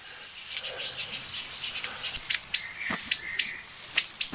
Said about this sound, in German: Was wirklich interessant ist zu beobachten gerade, ist, dass die Amsel an den gleichen Stellen sich hinsetzt, laut schimpfend, an denen es die Singdrossel vor ein paar Tagen, oder heute noch, gestern hat sie es getan, da war die Singdrossel heftiger